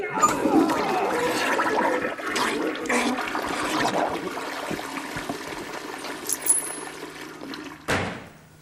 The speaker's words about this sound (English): Hey, that sounds pretty nasty. How about a courtesy flush over there?